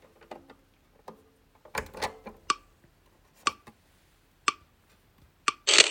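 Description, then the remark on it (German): Scattered mechanical clicks and taps as a page is turned and the scan key is pressed on a scanner give way to a steady series of short, high electronic beeps about a second apart, ending in a loud, broad whirring scan noise. “Das Lesegut liegt nach wie vor den Lautsprechern und ich drücke die Scan-Taste.”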